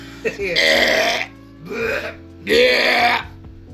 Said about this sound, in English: I wanted to belch really loud, but I didn't hit you right now.